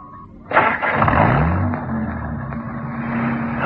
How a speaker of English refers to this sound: Listen to that engine. Like a sewing machine.